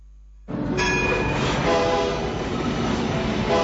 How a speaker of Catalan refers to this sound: Ara és l'ocasió de pujar a la Vall de Núria, ja que el tren cremallera per nens és gratuït.